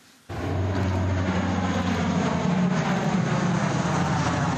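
A loud, steady engine drone of an airplane flying over the green steppes of the Central African Republic, dropping heavy sacks of rice, cuts in abruptly after a brief quiet moment and holds constant throughout, a deep rumbling hum with a broad whooshing wash and no voices.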